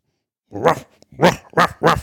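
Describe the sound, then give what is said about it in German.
A person mimics a dog with four loud voiced barks: one longer bark, a brief pause, then three quicker ones, with no other talking. “Hund, Katze.”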